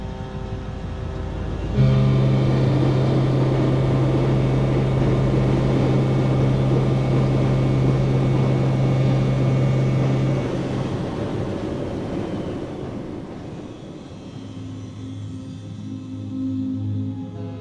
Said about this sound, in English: And most animals can also not go into higher frequencies to escape the boat noise and the shipping noise and other types of noise we make for communication.